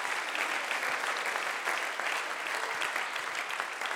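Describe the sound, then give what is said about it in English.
A large church audience claps steadily in praise, a dense, continuous wash of applause with many overlapping hand claps at an even, fairly loud level throughout. “Let's clap our hands.”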